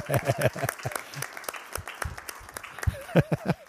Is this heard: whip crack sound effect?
no